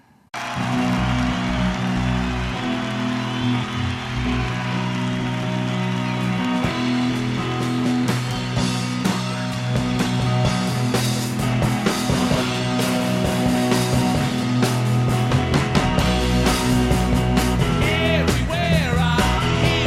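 A large crowd claps and cheers loudly and continuously, a dense roar of applause with heavy rumbling underneath, like feet stomping, sustained at full intensity throughout.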